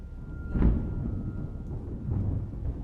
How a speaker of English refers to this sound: A crash of thunder shook the cabin. It was so sudden, I was snapped out of my trance.